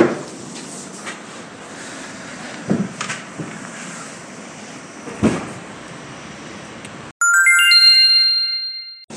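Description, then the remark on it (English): Steady rumbling subway train noise at the 42nd Street station by the Port Authority bus station, bound for Manhattan or Brooklyn, gives way to a loud, clear door-closing chime, a short series of bright descending tones ringing out near the end. “Staying clear of the closing doors, we're out of here.”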